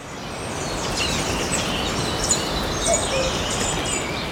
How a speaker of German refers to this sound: Einfach nur mit so ein bisschen Vögelgezwitscher oder ähnliches.